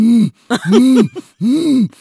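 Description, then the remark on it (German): A person imitates a jaguar's call with a series of deep, rasping grunts, three main bursts plus a short one, in a steady sawing rhythm, fairly loud with brief pauses between. “Dann kann ich auch noch Jaguar machen.”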